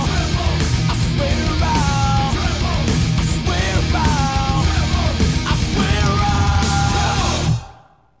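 Loud, dense rock music with distorted guitars, pounding drums and a strained vocal line, playing at full volume before cutting off abruptly near the end into silence.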